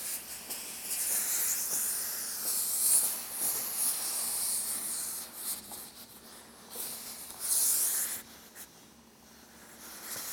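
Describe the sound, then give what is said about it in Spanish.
Steady steam hissing from a steam iron being used to steam clothes, a broad airy rush that swells louder in bursts around three and eight seconds, with no talking. “es muchísimo más cómodo que solo pasemos el vapor, porque, ¿ves?, se queda planchado pero sin marcar la tabla.”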